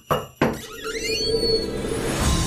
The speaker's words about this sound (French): C'est l'heure d'ouvrir une porte.